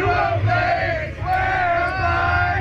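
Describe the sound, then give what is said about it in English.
A baseball team, celebrating its franchise's first World Series win in the locker room and spraying champagne, sings loudly together in a rowdy, unison chant, voices held on long sustained notes with cheering mixed in, continuous and full for the whole stretch with a brief dip midway. “They're spraying it on everybody. Yep. And they're singing this song.”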